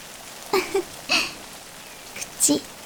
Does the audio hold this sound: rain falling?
yes